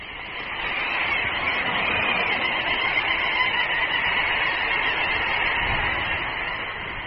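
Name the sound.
little auk colony calling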